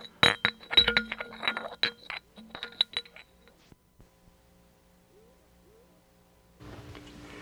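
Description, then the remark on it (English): Silverware and china clink and clatter in a rapid, irregular burst of bright, ringing taps for a few seconds as they are taken out to set a table, then fall quiet before a rush of noise at the end. “Come on, let's get this silverware and china out.”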